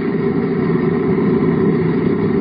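The propeller engine of the airplane Question Mark drones steadily in flight through bumpy air as a refueling plane approaches overhead, a continuous low, throbbing hum with a slight rough texture that holds at an even loudness throughout, with no voices.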